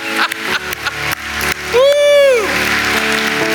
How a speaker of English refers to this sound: Come on, let's just give the Lord a praise clap today. Can we do that? Anybody thankful? Come on. Hallelujah.